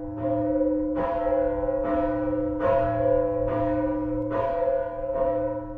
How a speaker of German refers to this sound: wo vom Katharinenturm der Stiftsruine manchmal noch die älteste datierte Gussglocke Deutschlands läutet, die Lullusglocke